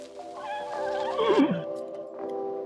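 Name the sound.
horse neighing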